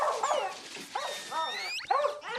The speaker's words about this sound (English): It's fucking squeaking! Man, you never heard a dog squeaking?